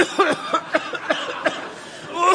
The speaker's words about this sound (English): Cough. Cough. The sound of mucus.